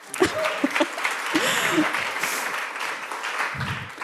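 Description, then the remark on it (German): A short burst of clapping from a small group applauding two people, dense and steady for about four seconds, with a few brief voices and cheers mixed into the applause. “Kleiner Beifall.”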